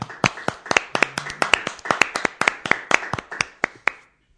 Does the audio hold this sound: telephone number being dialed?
no